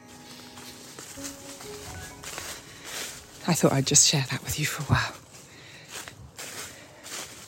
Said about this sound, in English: I'm loving the sound of crunchy leaves underfoot though. It's the best, isn't it? There's no better sound.